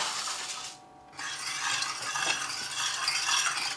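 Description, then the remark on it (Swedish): Sugar being stirred into boiled water to dissolve it and make a sugar syrup, a steady gritty swishing and scraping that breaks off briefly for a moment, then resumes and continues evenly. No one speaks. “Nu ska jag koka upp vatten och lösa upp socker i det.”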